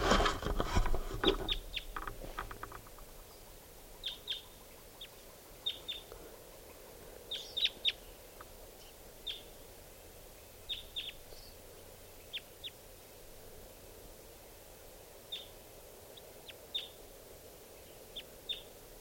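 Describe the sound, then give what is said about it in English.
A wild bird calls in a steady series of short, high, sharp chirps, spaced a second or two apart over a soft background hiss, after a brief burst of rustling noise at the start. “Wild bird.”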